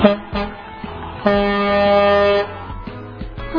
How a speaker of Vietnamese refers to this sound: Thế này thì không được rồi. Để mình đi chèn hết các cửa vào xem nào. Có tiếng ô tô như thế này thì làm sao mà thu được cơ chứ.